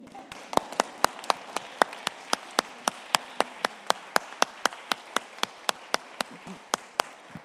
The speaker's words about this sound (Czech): ten potlesk klidně mohl pokračovat.